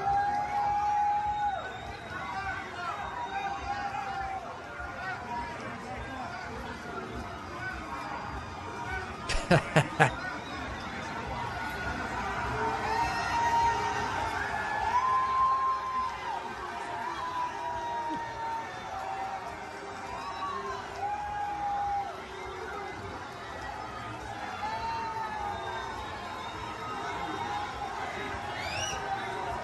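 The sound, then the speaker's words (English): A large stadium crowd at an Iowa versus Iowa State college football game in Iowa roars continuously as Trump attends, a dense wash of booing mixed with cheers and whistles, with a brief sharp burst around ten seconds; no one speaks clearly over the noise. “And he was brutally, brutally booed. There are cheers as well, I won't lie. But there are a lot of boos there.”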